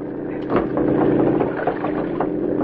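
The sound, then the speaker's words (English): A motorboat engine runs steadily, a loud low throbbing drone with a rough, pulsing texture that holds for the whole stretch without pause. “I'll try to reach that boat.”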